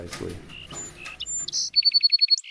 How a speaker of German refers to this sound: Manche der Singammern schaffen am Ende kompliziertere Melodien, andere einfachere.